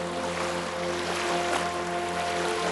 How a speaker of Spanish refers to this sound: Siente la inmensidad del entorno, escucha el suave murmullo de las olas rompiendo frente a ti.